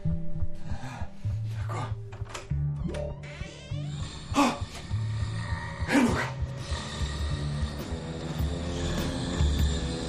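A rhinoceros down at the building entrance below, turning in circles, roars and stomps, a loud, continuous rough rumbling with grinding, rasping textures and two heavy thudding impacts midway, filling the whole stretch without any voices.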